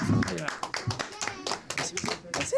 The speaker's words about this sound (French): Ok, allez, on l'applaudit, on l'applaudit, on l'applaudit.